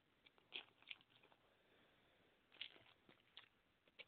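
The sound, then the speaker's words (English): Quiet chewing of a nougat bar: a handful of soft, sticky crunches and clicks at irregular intervals over low background hiss, with no talking. “I'm chewing this nougat bar here.”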